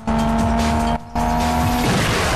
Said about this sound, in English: Flames shoot out of Brian's exhaust as the four racers speed past a parade of shots. Slapjack, Brian, Orange Julius, then Suki speed down the deserted street.